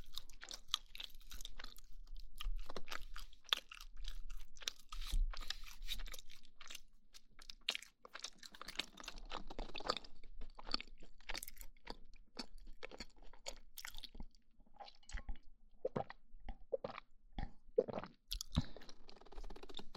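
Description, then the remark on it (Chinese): Crunching and chewing of food right at the microphone, a steady run of crisp, irregular bites and mouth sounds with no talking. “真的觉得这个麦克风录吃东西的声音好听，包括这种喝水的吞咽的声音。”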